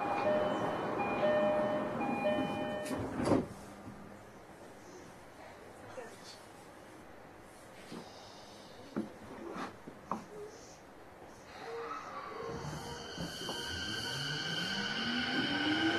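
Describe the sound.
Steady rumble of a subway train in motion, approaching Akasaka station, with a tonal chime early on, a few sharp clanks, and a rising electric motor whine near the end beneath faint voices.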